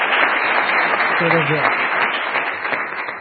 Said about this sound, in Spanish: Otro aplauso para ti, que pido yo, coño.